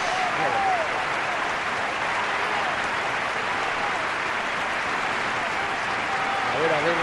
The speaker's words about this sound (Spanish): A ver cómo suena el Sadar. Está la afición del Mallorca, gritando bien ayer y aplaudiendo a Luis Sanjurjo. Mira cómo suena, mira cómo suena.